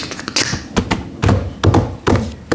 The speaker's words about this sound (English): As he walked or staggered around, he heard the sound of horse hooves.